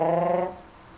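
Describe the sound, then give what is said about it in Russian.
A voice imitates a pigeon's coo with a single short, steady, low hum lasting about half a second, then fades into quiet. “Как голубь делает.”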